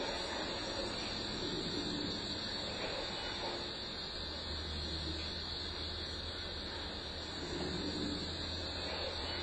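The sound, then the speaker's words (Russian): A male Mississippi alligator's deep, low mating bellow in breeding season sets in partway through. It holds as a steady rumbling drone over a constant hissing, noisy background while the alligator strikes its body sideways to raise rhythmic water waves. No one speaks. “Вот это вот его рев, он еще вот боковыми ударами тела вызывает волны вот по ритму.”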